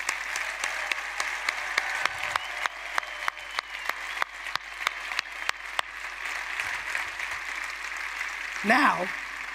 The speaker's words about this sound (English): First of all, let's clap up for the over 50 crowd that's sitting and respect our elders.